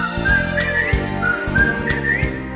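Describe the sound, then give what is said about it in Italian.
Someone whistles a short, bright melody over a steady musical backing with rhythmic percussive hits, the whistled notes sliding and wavering close and clear. “Se dimentichi la password, fischiettando ti dirò.”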